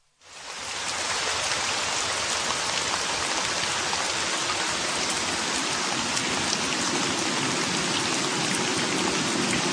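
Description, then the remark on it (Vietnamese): Steady, heavy rain pours down continuously after a brief quiet start, a dense even hiss with scattered drops pattering, no voices present. “Chuyện vào một ngày nọ, lúc trời đã về chiều, có một gã nô bộc đang chờ tạnh mưa dưới cổng ra sô môn của kinh thành Kyoto.”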